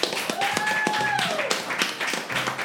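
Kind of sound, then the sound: crowd, applause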